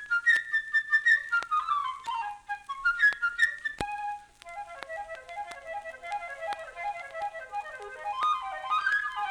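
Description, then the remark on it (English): A solo flute, representing the bird character in an orchestral tale, plays a bright, chirping melody in a high register, full of quick runs, trills and darting leaps, moderately loud throughout with no voices. “The bird by a flute.”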